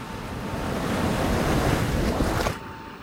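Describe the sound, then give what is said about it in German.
Sea waves wash in a steady, broad rush that swells and then draws back, with wind blowing across the microphone; the surge drops off sharply near the end. No one speaks. “Als ich wieder aufwachte, pfiff das Meer seine Wellen zurück.”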